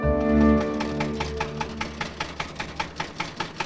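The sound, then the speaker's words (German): A tractor engine chugs steadily, its low rumble settling into a regular, rapid putt-putt rhythm of evenly spaced beats with no voices. “Mit dem Trecker.”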